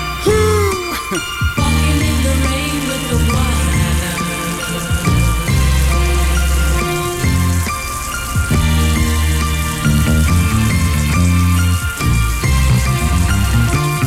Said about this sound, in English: Did you get caught in the rain? Oh, yes. It was so beautiful.